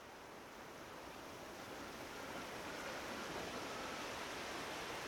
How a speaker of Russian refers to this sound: Тут на берег обрушилась волна, да так далеко, что омыла голые ноги Кнута.